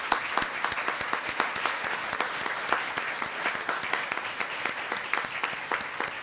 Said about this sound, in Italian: Ma soprattutto grazie a tutti voi che siete stati bravissimi e veramente, devo ripeterlo, anzi facciamo un grosso applauso perché ve lo meritate davvero.